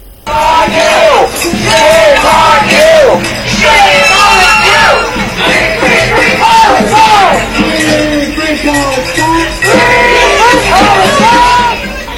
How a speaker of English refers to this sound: Protesters were angry at the U.S. president for his support of the Israeli killing machine. They shouted slogans such as "Shame on you" and "Hands off Gaza."